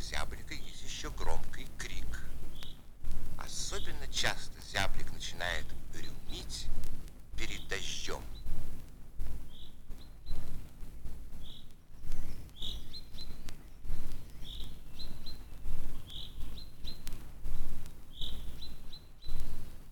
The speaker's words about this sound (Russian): Поет зяблик. Без его громкой песни не обходится ни одна роща, ни один парк. Песню зяблика можно услышать даже в большом городе.